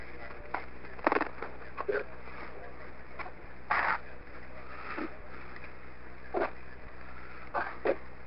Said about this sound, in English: I'm dropping the phone.